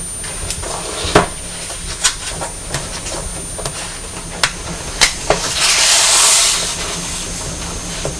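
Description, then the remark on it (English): A train rolls along the tracks with a steady rumble and a series of sharp clacks from the rails, then a loud hiss of steam or air near the end. No voices. “What's the train doing? Going on the tracks.”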